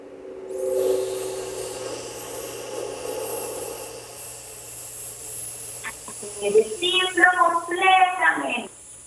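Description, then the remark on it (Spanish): In a breathing exercise, a person releases held breath from a belly filled with air, exhaling through an S-shaped mouth in a long, steady hiss like a snake, held for several seconds at an even level, followed by a few short voiced sounds. “Sostengo el aire y lo vamos a soltar como una serpiente. Hagamos una S en la boca.”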